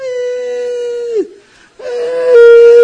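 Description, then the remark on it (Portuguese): A voice imitates a child's fake wailing cry: two long, loud, steady-pitched wails with a brief gasping break between them, nasal and horn-like, with no other talking. “E ele costumava ficar chorando atrás de uma janela onde minha tia cozinhava no fogão a lenha.”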